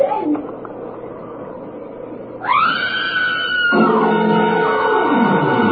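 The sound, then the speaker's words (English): After a couple of seconds of quiet background, a woman inside a barn lets out a long, loud, high-pitched scream that rises sharply, then holds and wavers for over three seconds until the end. “Now, look, get over there inside the barn and scream. Long and loud, huh?”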